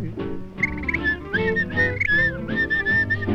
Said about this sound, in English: to whistle, 'cause it makes me merry, makes me feel so very.